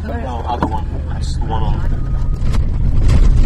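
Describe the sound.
A truck's engine rumbles steadily as it drives at night over rough, bumpy beach sand in the Outer Banks, carrying a family looking for wild horses, with people talking over the low, continuous drone.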